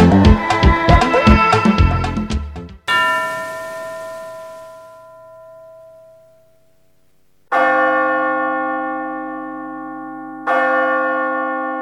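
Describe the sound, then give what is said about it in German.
Church bells in a bell tower in Grahamstown, southern Africa, ring out loud: a rapid tumble of overlapping peals, then one long-decaying strike, followed by two more heavy, resonant strokes several seconds apart. “Ein Glockenturm in Grahamstown, in der ersten Hälfte des vergangenen Jahrhunderts zweitgrößte Stadt im südlichen Afrika.”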